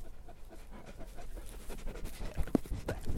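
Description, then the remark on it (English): A long white-coated sheep guard dog pants heavily and rhythmically right at the microphone, quick breathy huffs growing louder and rougher toward the end, with no one speaking. “Oh, he just nearly bit the end of my microphone off.”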